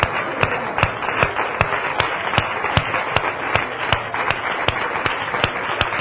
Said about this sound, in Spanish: Recibe hoy este aplauso, esta ovación de tu iglesia, de tus hijos que te aman.